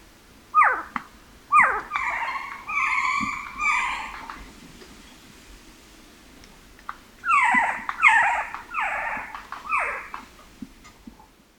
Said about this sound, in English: You might be wondering if screech owls really screech. Well, yes they do, and snap their bills in protest when alarmed near the nest.